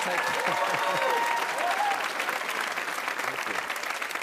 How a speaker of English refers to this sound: Thank you for applauding my breakdown.